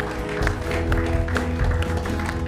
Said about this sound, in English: Amen. Can we give the Lord a hand clap of praise in this house?